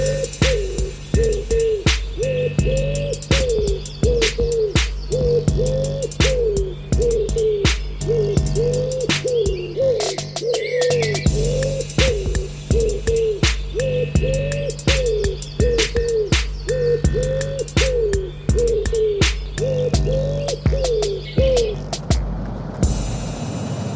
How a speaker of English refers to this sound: That was just a bit of bird bants there before that wood pigeon jingle.